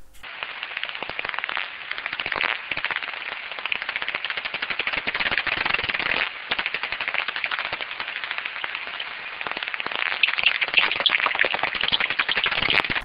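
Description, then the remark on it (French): Pipistrelle bat echolocation calls while hunting: a dense, rapid stream of dry clicks and ticks with a crackling, rattling texture, steady and fairly loud throughout, with no voices. “Par exemple, ici, on entend les cris d'une pipistrelle en vol de chasse.”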